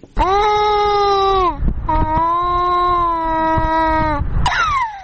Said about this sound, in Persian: گریه این کودک از گرسنگی است.